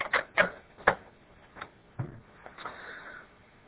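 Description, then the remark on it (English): A cassette tape is flipped over: a quick series of sharp plastic clicks and clacks, uneven in rhythm, followed by a softer rattle as the tape is reseated. No one speaks. “And our tape should automatically reverse too, but it doesn't. So let me flip it over.”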